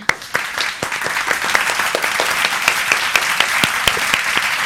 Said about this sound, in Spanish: Para todos, un gran aplauso.